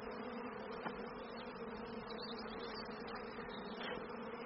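A dense, steady drone of many worker bees buzzing together around a hive as smoke is blown round it, continuous, with no voices and only slight swells in the hum.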